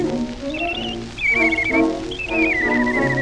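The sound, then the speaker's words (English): A girl whistles a short, gliding tune in three bright phrases, clear, with a low musical backing humming underneath throughout. “A girl taking a chance when she whistles like this.”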